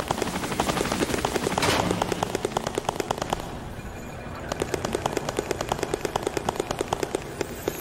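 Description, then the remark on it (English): A fighter helicopter's rotor chops steadily and loudly, mixed with rapid bursts of gunfire; the pulsing eases briefly midway, then resumes with sharp, evenly spaced cracks. “Object info, total objects 1 slash current position, fighter helicopter at 6052 HP, 74.”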